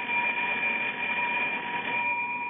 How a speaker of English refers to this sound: Right under the button here, it says, ring in case of emergency. But nothing happens. I've been ringing this bell for the last hour. Nothing happens.